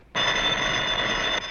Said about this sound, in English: To answer the phone. Well, you already answered it.